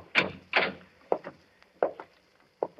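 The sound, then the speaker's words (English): An unlocked wooden door is opened: two loud knocking clunks of the latch, followed by several softer creaks and bumps spaced out over a couple of seconds, with no voices. “You see, it's unlocked, as he left it.”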